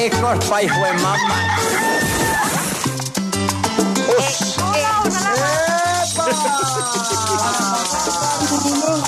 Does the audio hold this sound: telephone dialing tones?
no